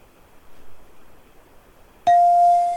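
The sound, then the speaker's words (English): A bright bell ding rings out suddenly after a quiet, faintly noisy lead-in, its clear tone sustaining loudly with a shimmering ring until the end. “Get the bell.”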